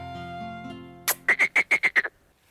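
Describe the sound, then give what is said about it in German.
A quick run of about six loud, evenly spaced frog croaks, heard alone after a brief sustained tone and a sharp burst, like a cartoon sound effect. “Komm, kleiner Frosch, ich verwandle dich jetzt in einen wunderschönen Prinz.”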